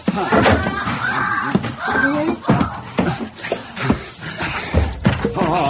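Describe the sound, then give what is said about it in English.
Heavy, irregular bangs and thuds pound loudly, again and again, against the locked and bolted door of a room as someone tries to burst it open, with agitated voices mixed in. “Monsieur, the door of the room is locked and bolted. It will take too long to burst it open.”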